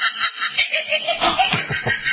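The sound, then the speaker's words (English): A Halloween doorbell plays a recorded evil cackle, a sinister laugh pulsing in steady bursts with a thin, tinny, band-limited tone and no talking over it. “I'm a little shocked that that's the noise you have. That is like an evil sound laugh.”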